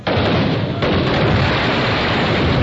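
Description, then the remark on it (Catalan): A loud barrage of gunpowder fireworks announcing a Catalan festa major, a dense continuous roar of crackling bursts and booms with no pause, filling the whole stretch without any voices. “L'esclat de la pólvora ens ha servit per anunciar la festa, per donar importància a determinats moments de la festa.”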